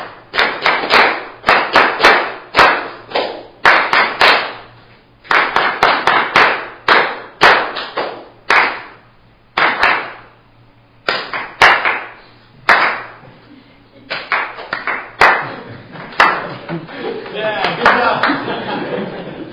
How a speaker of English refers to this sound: I'll give you a measure again, and we'll do 8, but we're just clapping it this time all together, and we'll do the whole thing. 1, 2, 3, 4.